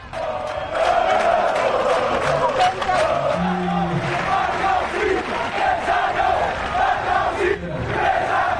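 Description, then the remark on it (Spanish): A large crowd at a public event chants loudly and continuously, keeping Falcao from speaking, many voices blending into a steady, rhythmic roar with shouted bursts rising over it throughout. “Cánticos.”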